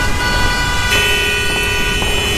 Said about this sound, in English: Are you tired of the day-to-day hustle and bustle? The traffic?